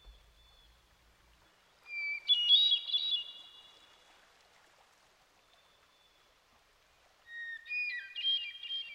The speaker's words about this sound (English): This is the hermit thrush. It's a very independent bird that likes to be alone. We can hear it most often at this latter part of the day.